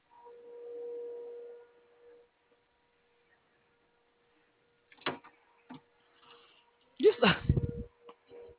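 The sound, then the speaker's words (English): A single sharp, loud sneeze bursts out near the end, preceded by a low steady hum and a few faint clicks and taps. “Bless you.”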